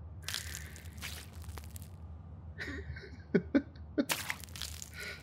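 Someone vomits into a plastic bag: crinkling plastic and wet, splashy gushes broken by a few short, sharp retching heaves, with no talking.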